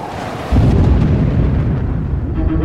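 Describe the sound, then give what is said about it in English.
A loud, deep rumble of thunder from a thunderstorm over the open sea bursts in suddenly after a brief quieter moment, then rolls on as a heavy, sustained roar of storm noise, with 30-foot waves and shrieking winds, and no voices. “the empty stretch of sea seemed desolate, despite the cacophony of the thunderstorm that rained into the ocean.”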